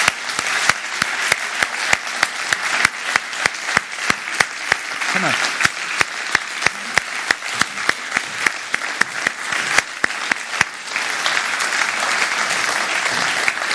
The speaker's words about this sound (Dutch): Zullen we onze schepper een applaus geven? Een daverend applaus. Ga erbij staan.